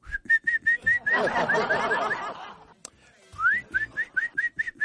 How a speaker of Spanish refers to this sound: Ya, la señora acá a este lado y el caballero está en otro lado. El perrito o perrita por allá, y le silba. Y el perrito se va a ir a uno de los dos lados.